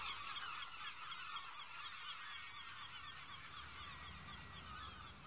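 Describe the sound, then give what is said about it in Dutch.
A flock of seagulls crying, many shrill overlapping calls forming a continuous, busy chorus that holds steady throughout, with no voices. “Onmiddellijk kwam er een meeuw die de sleutel oppikte en snel mee wegvloog.”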